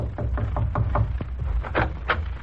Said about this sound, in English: Below the deck of the troop transport Dorchester, four chaplains are sitting in officers' quarters. Then, suddenly, there's a knock on the door.